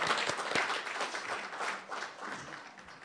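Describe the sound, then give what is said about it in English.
A crowd applauds for rehabilitation counselors around the state, marking National Rehabilitation Counselors Recognition Day. The clapping is dense and steady at a fairly even level, with a few sharper claps standing out, then gradually thins toward the end. “So hey, one big applause for counselors around the state.”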